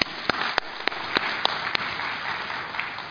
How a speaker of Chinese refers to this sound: 我知道我的神是真的，阿们，我的神是真的，我们俾掌声耶稣。